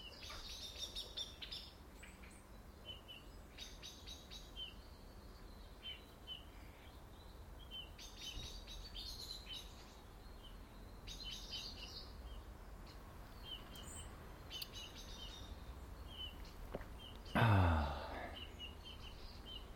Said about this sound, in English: Ah, I just realised why he's not about, because all those chirping blackbirds will be him and maybe Mrs. hunting out the intruders in the trees.